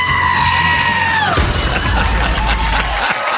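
A loud, drawn-out goat bleat, almost a scream, holds steady and then slides down in pitch, followed by a rough, noisy background like commotion or a crowd.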